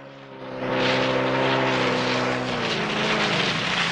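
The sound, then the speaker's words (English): A speedboat engine roars up to full power as Bond accelerates away on a bayou, its loud, droning whine swelling within the first second and then holding steady, with no voices. “Bond gets to his feet and spots him over the tall grass. Bond accelerates away.”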